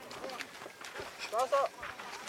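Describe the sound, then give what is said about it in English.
Camels in Garissa, Kenya, being rounded up by a camel herder for a caravan after a long, hot day, grunting and groaning: a couple of short, moaning, voice-like groans rise midway through, over a steady rumble of shuffling background noise. “Camels, like cars and trucks, are supposed to make noise.”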